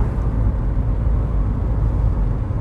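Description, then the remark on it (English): An MG car's engine drones steadily as it drives along a country road southwest of Birmingham on a cold, sunny day, a continuous low rumble with road noise and no voices. “I'll bring the MG out for a run down in the countryside.”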